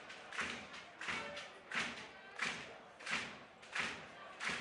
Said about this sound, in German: Und die Fans, das hört ihr bestimmt auch da draußen. Klatschen und klopfen im Takt natürlich auch die Royals-Fans, denn da sind sie sportlich. Das macht man so im Football, dass man quasi einfach hier im Takt klatscht